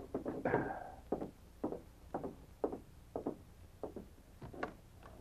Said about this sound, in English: Sergeant Preston sat in the office of the police barracks reading, with King lying quietly beside him. The dog rose as he heard a timid knock on the door.